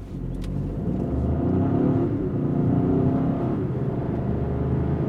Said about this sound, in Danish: så sætter man i gear, og så er det jo bare træde på speederen. Så kan jeg i øvrigt oppe bag rettet benytte nogle skiftepaler, hvor jeg kan skifte op og ned i gear, og jeg kan også aktivere et såkaldt boost, så jeg får lidt ekstra effekt ud af den.